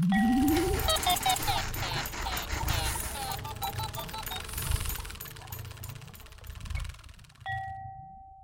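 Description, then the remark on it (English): A busy jingle of chirpy, bubbly sound effects opens with a rising tone, then a single clear bell chime rings out alone at the end and sustains as it fades, signaling the return of the Science Friday science club. “Guess what that sound means? Especially the bell.”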